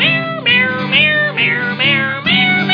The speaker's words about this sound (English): My cat is stupid, but that's okay. He doesn't need a brain anyway. Meow, meow, meow, meow, meow, meow, meow, meow.